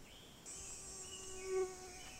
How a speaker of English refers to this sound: That was a mosquito.